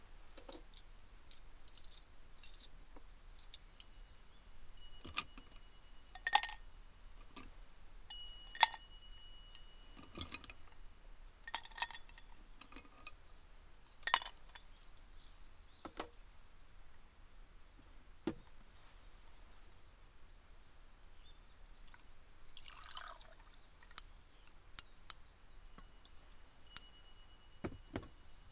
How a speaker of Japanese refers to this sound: この氷が割れる音、聞いてて心地いいよね。夏がやってきたって感じがする。風流ってやつだね。